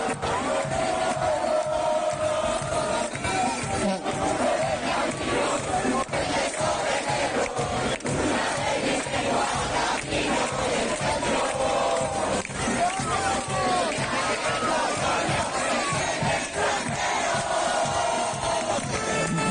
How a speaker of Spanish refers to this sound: No es la plaza del Ayuntamiento de Logroño, no es el disparo del cohete, no, es la fuente Murrieta de la capital riojana anoche. Sonido de celebración, alegría en La Rioja, en todos y cada uno de los rincones de La Rioja.